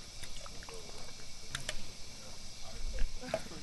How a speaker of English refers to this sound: It's a warm summer afternoon in Kansas City, and friends are gathered on a Midtown front porch. The sound of the cicadas is joined by another familiar sound.